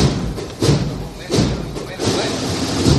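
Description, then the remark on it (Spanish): Slow, steady procession drum beats thud about once every second, four strong hits against a noisy outdoor crowd while a man talks over them, as the float of the Señor de la Salud completes its turn to the drum beat at the door of the convent of Santa Ángela de la Cruz. “Está completando la revirada a paso tambor.”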